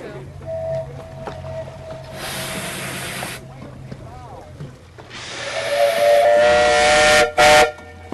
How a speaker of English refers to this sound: And the smell of oil and steam, it's perfume to my nose. I have to say that. It's a piece of beauty, a steam engine. That, to me, is beautiful.